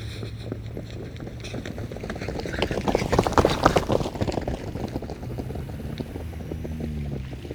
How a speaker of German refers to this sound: Guck mal, ein Auto fährt weg. Das ist ein roter VW Golf.